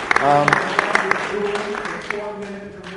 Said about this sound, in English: Yeah, if we could have a round of applause also for all the nominees and all the winners.